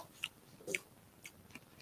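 food or drink, crunchy snack being chewed

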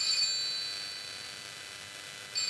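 signal or alarm, telephone ringing

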